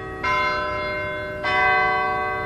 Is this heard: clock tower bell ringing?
yes